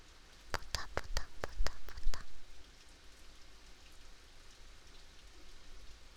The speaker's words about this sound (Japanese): それにね、雨音って落ち着くんだよ。よーく聞いてみて。